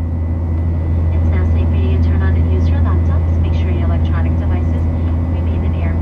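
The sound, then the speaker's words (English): A loud, steady low drone of airplane cabin engines on a flight back to JFK in New York City fills the whole recording without letting up, while faint, indistinct voices murmur over it. “As the documentary wrapped up, I found myself on a plane back to JFK in New York City, exhausted and emotionally drained.”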